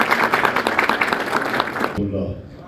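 Dense, steady audience applause at an event in Hamedan province, welcoming a speaker from Sistan and Baluchestan province, with many overlapping claps for about two seconds, then it cuts off abruptly, leaving a faint low hum.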